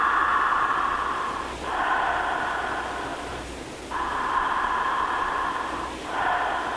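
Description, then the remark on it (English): A slow, audible breathing demonstration through the mouth in a steady rhythm, each long airy breath swelling and fading like a wave, with brief pauses between. No talking, just the soft rushing sound of air. “And just remember that the breath is like a wave.”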